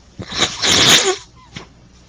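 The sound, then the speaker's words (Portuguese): A single forceful sneeze from a person with the flu, with a sharp intake of breath before the burst, then a faint sniff afterward. No one talks. “Vocês vão ter que ter uma paciência comigo, a minha gripe não está boa ainda, eu tenho uns intervalos aí para espirrar, limpar nariz, essa coisa toda.”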